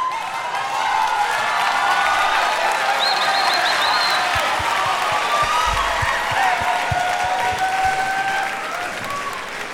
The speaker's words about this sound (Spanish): Aquí están, un aplauso para ellos